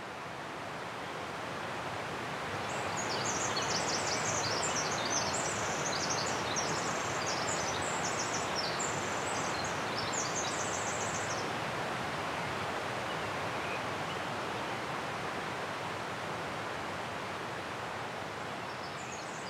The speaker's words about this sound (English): And the streams weren't huge, but they were very rocky bottoms and just made a roar. And, I mean, it swamped every single dawn chorus. And it's like, wow, how do the birds live here? How do they hear each other over this roar of the stream?